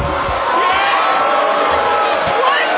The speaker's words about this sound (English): Hey, do it again. This is BS. What? I won. Do it again. Do the applause thing again.